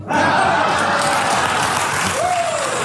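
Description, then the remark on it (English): A crowd applauds a Bill Maher joke steadily, a dense, even wash of clapping that fills the whole moment, with faint whoops or vocal tones rising briefly through it. “You know you're not funny when you get claps.”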